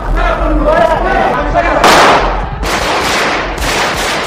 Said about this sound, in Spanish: Son 37 disparos de pistola y de subfusil en el techo y en las tribunas del Congreso.